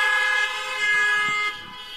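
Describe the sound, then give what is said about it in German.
Car horns blare in a steady, sustained honk that holds for a couple of seconds, loud, with a faint hum of traffic underneath and no one speaking. “Die werden alle, genau, weißt du, warum die alle hupen?”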